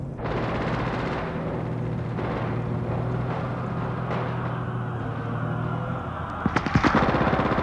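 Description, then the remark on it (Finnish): A steady, low mechanical rumble of a tank drones throughout from behind a brook, then near the end a rapid burst of sharp, loud gunfire cracks out in quick succession over it. No one speaks. “Panssarivaunun ääni alkoi kuulua puron takaa vilkkaan ammunnan säistämään.”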